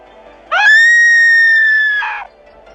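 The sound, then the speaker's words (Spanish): A woman of about 27 lets out a single long, high-pitched scream lasting well over a second, loud and sustained before breaking off, heard from a distance as she runs along Calle Mayor toward a town square; no speech around it. “Por la calle Mayor se acerca corriendo y gritando una chica de unos 27 años.”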